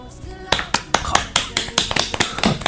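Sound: applause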